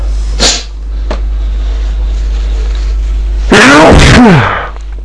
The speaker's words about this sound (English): They come in thick and fast. Really tickling. I'm very powerful. Oh. My voice is going. That's sneezing so much.